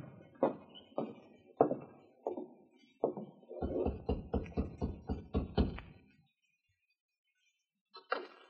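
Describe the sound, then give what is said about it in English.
Heavy pounding knocks on a wooden door, loud: a few spaced thuds, then a rapid volley of about eight blows before it falls silent. “You're pounding on the wrong door.”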